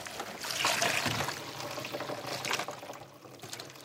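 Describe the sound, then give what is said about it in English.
Maple sap from a tapped tree trickles and pours into a bucket, a steady splashing dribble with brief surges, moderately loud, with no voices. “Let's have a look in some of the buckets.”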